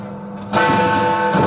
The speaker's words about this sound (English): Is that actually Big Ben? That is Big Ben. They fixed it.